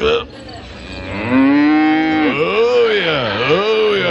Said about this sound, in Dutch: Welke spenen? Kijk, hier zo, jongen, een paar van die spenen. En als u er nou aan trekt, dan loeit hij.